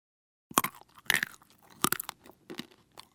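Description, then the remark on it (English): Crunchy chewing of trail mix made of nuts, chocolate pieces and dried fruit, with several sharp, irregular crunches followed by softer chewing, loud with no talking. “It's sweet, salty, chewy, and crunchy.”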